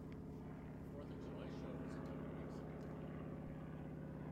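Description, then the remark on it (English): An airplane engine drones steadily and loudly throughout, a low buzzing hum with a throbbing propeller-like texture that holds at a constant level, with faint indistinct voices in the background. “It's my plane.”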